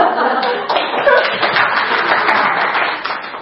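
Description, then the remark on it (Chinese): A room full of people at a women's committee event applauds to welcome a male teacher, steady dense clapping with a few chuckles mixed in, sustained and fairly loud throughout the short stretch. “所以呢，大家掌声欢迎。”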